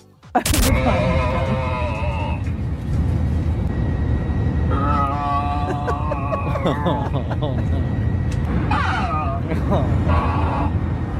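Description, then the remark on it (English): A sharp click, then strange warbling, whine-like tones crackle over an aircraft cabin intercom in bursts, sitting above a loud, steady engine roar that runs throughout. “So this is coming through the intercom on the plane.”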